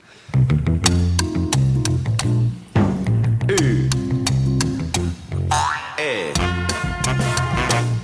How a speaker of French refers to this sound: Bravo, vous méritez quand même les cloches.